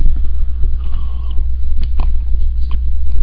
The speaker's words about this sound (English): Kind of wet my whistle with one of the last sips of coffee that I've got for today.